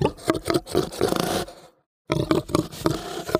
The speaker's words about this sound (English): to big guttural sounds of this Central European boar.